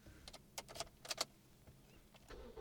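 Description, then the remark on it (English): Car keys jangle and click as someone starts a car, with several short, bright metallic bursts in quick succession over a quiet background. No one speaks. “Start up the car for me then.”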